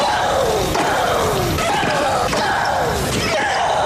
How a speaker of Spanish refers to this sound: El sonido es inconfundible. Era su sello en la cancha. Los gritos, para muchos exagerados, hacían parte de la experiencia de ver a María Sharapova en una cancha de tenis.